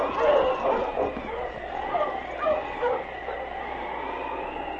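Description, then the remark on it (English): A pack of husky sled dogs, Sergeant Preston's dog team with King, barks and yips excitedly together as they set off in a worsening snowstorm toward 40 Mile, a steady, overlapping chorus with a few whining notes, fairly loud throughout. “All right, on, King! On, you husky!”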